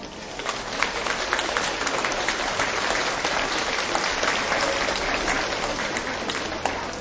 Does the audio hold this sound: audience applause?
yes